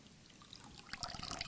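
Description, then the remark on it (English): Water dribbles from a sponge saturated in water, starting as a faint trickle and swelling after a moment into a steadier, splashy stream of pattering drops, fairly quiet, with no voices. “I mean, it's just, it's being affected by just dripping. It's pouring out all this water.”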